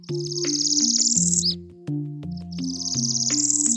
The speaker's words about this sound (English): And there was a northern parula.